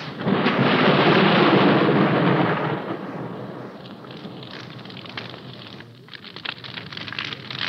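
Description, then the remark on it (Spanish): Steady rain pours down at night in the darkness over Granja Latina while a deep roll of thunder rumbles loudly at the start, then fades into a softer patter of drops with occasional crackles. No voices are present. “Y la lluvia se mezcló con la oscuridad.”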